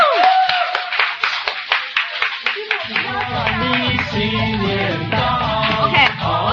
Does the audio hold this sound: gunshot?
no